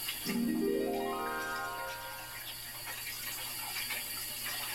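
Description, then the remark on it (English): A shower runs with a steady, fairly quiet hiss of spraying water, opening with a brief rising whine like pipes as the flow starts, then continuing evenly with no one talking. “When it is clear that the shower is running.”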